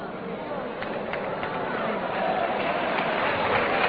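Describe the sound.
An audience claps in a steady, dense patter that holds for about four seconds and swells slightly louder toward the end, with a faint murmur of voices mixed in.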